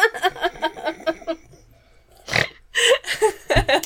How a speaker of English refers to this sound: So burp off. You thought you were listening to murder, but you're actually listening to two chicks burp. And cackle.